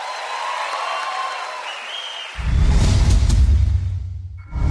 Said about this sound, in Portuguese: Obrigada, muito obrigada. Mais aplausos.